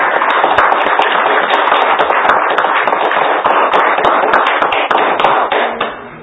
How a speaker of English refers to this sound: Let's give the Lord a hand clap of prayer.